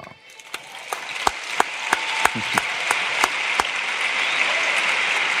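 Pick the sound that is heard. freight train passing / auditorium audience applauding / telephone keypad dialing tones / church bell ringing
auditorium audience applauding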